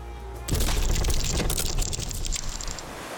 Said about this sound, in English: She crashed. She crashed without leaving the harbour, straight into rocks. A gaping hole condemned the white ship.